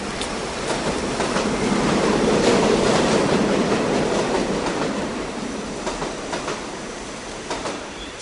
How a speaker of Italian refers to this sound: Il treno entra nella stazione.